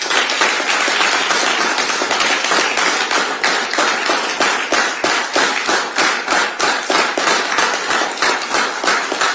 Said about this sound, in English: There's a big round of applause, but I'm not sure there's that many people in the room. That's Keir Starmer, the Labour leader, leader of the opposition, indeed. Sir Keir Starmer, speaking earlier today down in Deal in Kent.